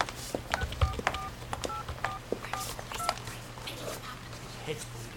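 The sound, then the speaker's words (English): A quick run of about seven or eight telephone keypad tones as someone dials a phone at a truck stop west of Ambrosia, Arizona: short dual-pitched beeps pressed in an uneven rhythm over a steady low hum, with faint background noise afterward. “You mind if I use your phone?”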